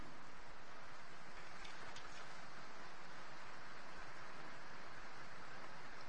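Steady, dense rain hisses across a roof in an unbroken wash of noise, level and constant throughout with a low rumble underneath. No one speaks.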